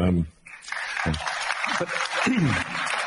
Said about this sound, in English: And you got applause for that. That's Elon Musk at a TED convention, explaining why he's interested in buying Twitter.